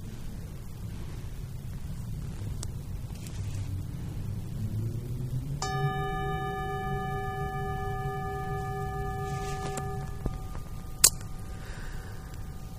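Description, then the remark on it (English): A single bell strike rings out with bright, steady overtones that sustain for several seconds before fading, over a constant low rumbling background; a sharp click follows shortly after. “3 minutes, 4 minutes, and then I'll ring the bell again.”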